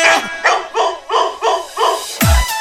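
A dog barks in a quick, steady run of about seven loud, close yaps, each roughly a third of a second apart, followed by a low thump at the end.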